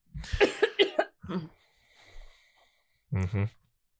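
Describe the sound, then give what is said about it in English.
A person coughs several times into their fist: a quick cluster of sharp, harsh bursts, a brief pause with some faint breathy noise, then a final pair of strong coughs. “You coughed into the little fist.”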